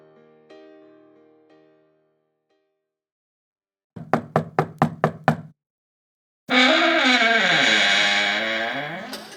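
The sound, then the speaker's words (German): Six quick, even knocks rap on the wooden door of a Christmas workshop, crisp, after a few soft tonal notes; a loud, wavering, strained tone follows once the knocking stops. “Und jetzt, genau in diesem Moment, oh, ich bin so aufgeregt, stehe ich vor der Tür der Weihnachtswerkstatt.”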